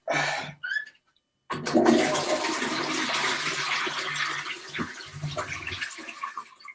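A toilet flushes: a brief clank and short splashes, then a loud, sustained rush of water that swirls steadily for several seconds with gurgling near the end.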